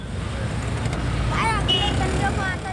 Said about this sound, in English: The Nizamuddin traffic junction is one of the busiest in South Delhi, a favorite of beggars who take advantage of the long wait between signals to work the lines of vehicles waiting for the green.